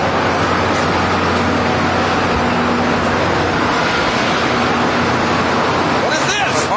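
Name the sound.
car driving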